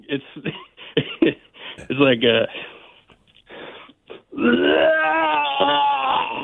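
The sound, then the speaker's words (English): A person vocally imitates loud, screaming vomiting without actually being sick: a run of short choppy gags and grunts, a strained retching burst, then a long, loud, wavering howl that holds for about two seconds. “Without puking, can you do that? Yeah, I can do it without.”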